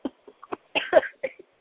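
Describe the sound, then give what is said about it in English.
A woman who has a cold coughs in a quick series of short, dry bursts, with a louder, harsher fit in the middle before tapering off. The coughs are heard on their own, with no talking. “I think she's coughing. Still got the cold.”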